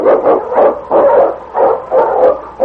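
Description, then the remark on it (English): A pack of husky sled dogs, led by the lead dog King on a trail in the Yukon, barks loudly in quick, repeated bursts, several overlapping yelps and woofs forming an excited, rhythmic chorus with no talking. “On King! On your Huskies!”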